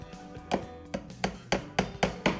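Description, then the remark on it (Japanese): A master craftsman demonstrates with a slightly larger hammer, striking repeatedly in a quick, steady rhythm, about eight sharp, ringing blows roughly a quarter second apart, growing firmer toward the end, with no voices. “はい、師匠はね、ちょっと大きめの金槌で。”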